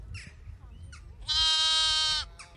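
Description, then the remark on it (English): A sheep on a sheep farm on the Killary Fjord in Western Ireland lets out a loud, drawn-out bleat, with a few shorter, fainter bleats before and after it over a low outdoor rumble. “sheep farm on the Killary Fjord in Western Ireland.”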